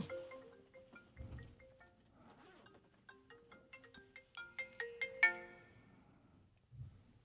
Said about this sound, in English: I think that's my cell phone. Okay. Maybe can you can hear just, it? Yeah, but just if you can just mute it, that's great.